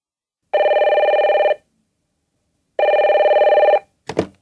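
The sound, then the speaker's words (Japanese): A telephone rings twice, each burst about a second of rapid warbling trill with a long pause between, loud, followed by a brief clatter like a handset being picked up; the call is from an electrical firm, Goto Denki, about an air conditioner installation. “電話でエアコンの取り付け工事について話しています。”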